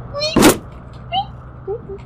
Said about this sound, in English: It makes a little bit of a squeaky noise as you just rip the board off.